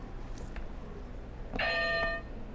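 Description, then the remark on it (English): A single electronic game buzzer sounds after a short click, a bright, steady, reedy tone lasting about half a second, heard alone over a low background hum. “Can you press another buzzer?”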